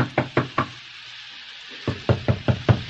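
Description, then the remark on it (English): Firm, loud knocking on a locked door: a quick set of three raps, a second of quiet, then a longer, steady run of about six insistent knocks. “Miss Shelley, open the door.”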